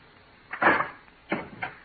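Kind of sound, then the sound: household object, door being opened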